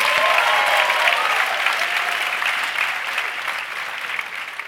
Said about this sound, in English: Let's get a round of applause as we're out for the break.